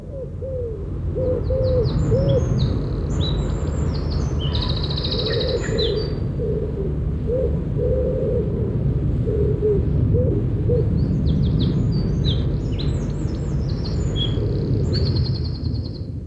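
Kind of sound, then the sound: bird, wren singing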